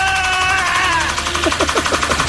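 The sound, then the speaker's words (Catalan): A pedestal fan clatters in a fast, steady burst of loud mechanical rattling, like rapid machine-gun fire, over a constant whirring hum. “i amb el mateix moviment el ventilador, el ventilador sona exactament com Rambo disparant amb la seva metralleta.”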